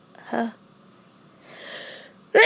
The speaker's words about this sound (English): Oh, just about to sneeze.